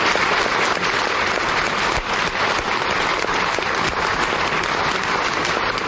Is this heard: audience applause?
yes